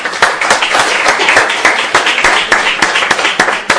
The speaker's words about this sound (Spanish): Bueno, muchísimas gracias. Un aplauso.